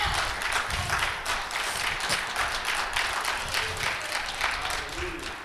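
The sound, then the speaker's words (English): An audience claps steadily in praise of God, a dense wash of many hands sustained throughout with voices mixed faintly underneath. “Clap your hands and give God some praise.”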